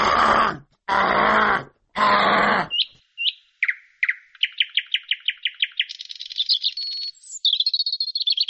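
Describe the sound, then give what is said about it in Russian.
A voice imitates a nightingale's song: three harsh, gurgling bursts, then a run of high whistled chirps and fast trills, loud, with no talking. “Ну, ты знаешь, да, что у соловья вот есть эти бульканья, вот эти все, что это характерное, это, которые никто, вроде говорят, никто якобы спеть не может, не знаю, может быть, кто-то и может.”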